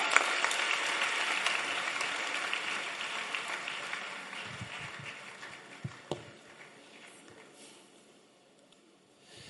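A crowd applauds during a sermon, clapping for Jesus, with dense, steady clapping that gradually fades over several seconds, a few sharper individual claps standing out near the end as it dies away.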